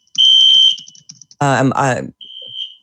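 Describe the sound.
A shrill, high-pitched fire alarm tone in a building blares in steady bursts, interrupted briefly by a voice before the piercing electronic beep sounds again.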